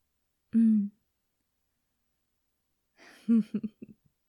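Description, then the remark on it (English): A short, soft gasp with a bit of voice in it. After a quiet pause, a cluster of breathy sounds and brief voiced bursts follows. “That little gasp.”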